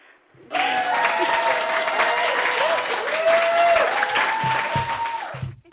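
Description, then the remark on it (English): A burst of loud, dense applause fills the space, steady clapping from a crowd with sharp whistles gliding over it, starting abruptly and cutting off after several seconds. “I want the applause right now, like a bunch of clapping and whistling.”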